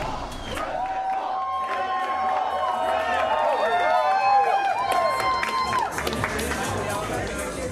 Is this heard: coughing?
no